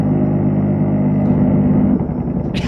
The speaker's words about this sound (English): It's clearly some kind of a chain gun, Gatling gun. It sounds like an A-10 to me. Oof. Now, I didn't hear any plane sounds, and I asked the commissioner if there were any planes overhead, but this sounds just like the burt of an A-10 to me.